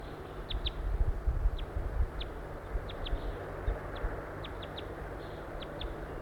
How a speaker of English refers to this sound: Here comes a larger number of wild crossbills towards the net area. I can see them now flying in the sky. There are one, two, three birds at least.